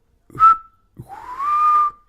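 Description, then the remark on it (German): A person whistles two bird-like notes: a short clear chirp, a brief pause, then a longer tone that slides upward and holds steady before stopping. No one speaks. “Ja, und ich hab gepfiffen.”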